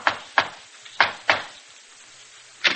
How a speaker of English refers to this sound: From the way he knocks at the door, she knows he's riding high.